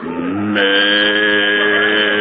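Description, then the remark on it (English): A cow named Bossy moos in one long, loud, sustained call. The tone is brassy and horn-like, swelling partway through, with no talking over it. “Where's that cow?”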